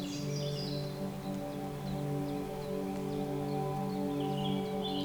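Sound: birds singing outdoors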